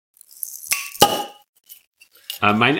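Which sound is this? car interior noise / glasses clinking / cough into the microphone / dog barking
glasses clinking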